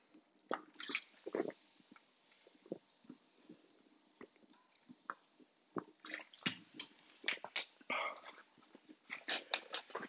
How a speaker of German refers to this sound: So, jetzt trinke ich einfach mal einen Schluck Wasser.